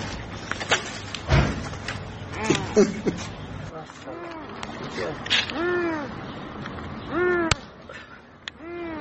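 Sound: trapped cat meowing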